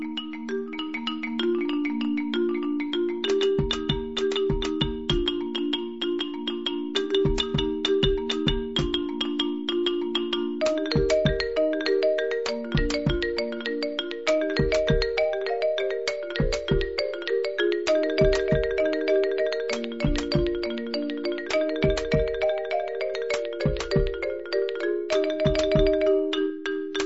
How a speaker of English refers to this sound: I'm just going to play a few seconds of music, and then our next guest is on the phone ready to go.